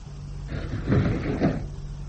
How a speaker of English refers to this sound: In spite of revived misgivings, I joined Cavour in the sphere and we screwed in the glass manhole. Cavour pressed the stud to close the blind which covered the hatch.